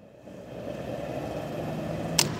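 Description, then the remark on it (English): A woman fills her car with gas at a gas station pump in Fayetteville: a steady mechanical whir and rush of fuel builds and holds, then a single sharp click near the end. No one speaks. “Shawnee Miller Vaughn fills up her car with gas at a come-and-go in Fayetteville.”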